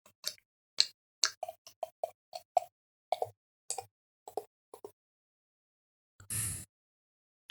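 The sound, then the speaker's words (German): Ratsherrn Küsten-IPA beer, fresh from the Hamburg west coast, glugs out of a bottle into a glass in a quick, uneven run of hollow plops, almost like clip-clopping hooves, ending with a brief fizzy rush of liquid. No one speaks. “Und ja, es ist, ich werde es jetzt mal einschenken.”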